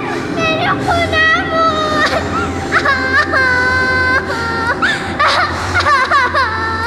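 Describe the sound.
A young girl cries loudly outdoors near a wheat field, long high-pitched wails rising and falling in pitch with brief catches of breath, over a low background murmur of voices.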